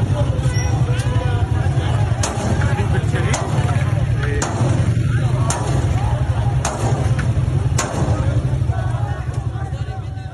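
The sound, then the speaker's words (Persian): Sharp gunshots crack out about once a second over a steady roar of crowd noise and low rumble, each shot distinct and fairly loud, as security forces fire on demonstrators at a street protest in Khuzestan, Iran. “در ویدیوهای منتشر شده دیده می شود که نیروهای امنیتی با خشونت و تیراندازی با تظاهر کنندگان برخورد می کنند.”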